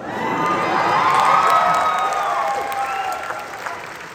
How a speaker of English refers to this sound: The help scream in the background every time you say Tech's name.